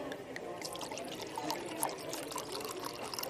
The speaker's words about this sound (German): Ich habe Ihnen das Glas extra randvoll geschüttet, damit Sie Ihren Kummer über Ihre fehlenden schauspielerischen Fähigkeiten darin ertränken können.